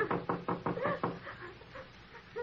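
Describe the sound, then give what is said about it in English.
Someone raps on a door with about six quick, even knocks in a steady rhythm, then the knocking stops and only faint, low background sound remains. “Well, it won't hurt just to rap on the door.”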